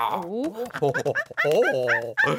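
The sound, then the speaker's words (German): People imitate monkey noises: a rapid string of loud, yelping hoots with sharply rising and falling pitch, broken by short pauses, with no real words spoken. “Wir müssen ein bisschen Affengeräusche machen.”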